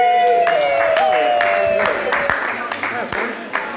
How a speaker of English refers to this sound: Everybody clap for Samson, the most beautiful dog. Yay, Samson. They're clapping for you, buddy. That's so nice.